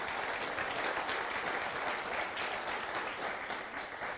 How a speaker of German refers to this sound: Ihr dürft euch wieder hinsetzen, komm, aber einen Applaus kriegen Sie doch mal.